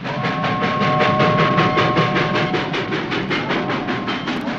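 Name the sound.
train traveling on rails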